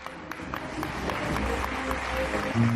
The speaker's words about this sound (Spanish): Y más aplausos cuando desde una ventana lanzan una sábana.